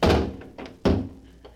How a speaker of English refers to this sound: Yes, of course, the vault. I haven't locked it yet. Plenty of room in it for a dead blackmailer. So, in you go. There you are. Now to close the door.